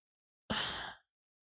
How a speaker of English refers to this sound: Okay, you can yawn away.